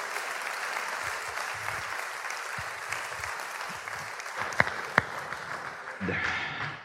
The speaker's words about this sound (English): And wouldn't you agree with me by a round of applause